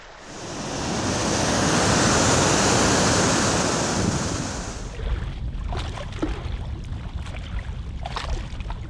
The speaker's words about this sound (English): This week, those sounds of a riffle in a stream, rapids in a large river, and waves on a lakeshore set a habitat stage for learning about a diverse and unusual group of aquatic insects.